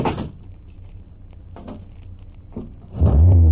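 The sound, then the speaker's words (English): A low car engine rumbles beneath a few clunks and knocks, then suddenly revs up loud in the final half second. “Hey, take it easy, Rafe. You want Pop to hear?”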